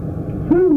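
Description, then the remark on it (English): A person gives a hog call to feed pigs, a single loud, sustained mid-pitched holler that swoops up and then holds steady, following a moment of low background hum. “Okay, when you're feeding pigs, you'd call you say.”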